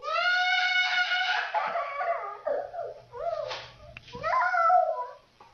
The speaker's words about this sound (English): This tantrum, from scream to whimper, took only a minute.